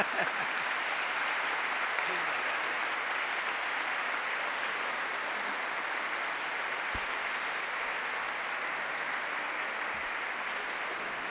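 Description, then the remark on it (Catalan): Sustained applause from an audience, a dense, steady clatter of many hands clapping at an even loudness throughout, with no voices standing out. “També un altre aplaudiment a banda de la cupla.”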